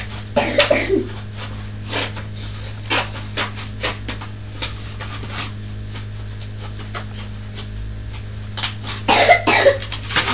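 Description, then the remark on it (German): A coughing fit: clusters of sharp, harsh coughs burst out near the start and again at the end, with a few scattered single coughs between, over a steady low electrical hum. “Ui, dieser mistige Husten.”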